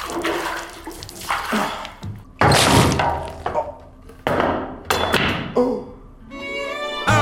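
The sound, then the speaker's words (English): Someone slips on a wet floor and hits their chin on a sink: a run of loud thuds and clattering knocks mixed with splashing water, ending in a strained, pained vocal noise. “Just to let you know, the sound you heard was me chinning myself on the sink after slitting on a wet floor.”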